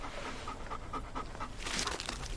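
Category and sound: animal, dog panting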